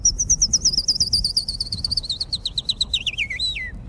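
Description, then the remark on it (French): A person whistles an imitation of a chaffinch's song: a rapid, high, descending trill of repeated notes ending in a brief flourish, loud over a low background rumble, with no talking. “Fais le pinson, vas-y.”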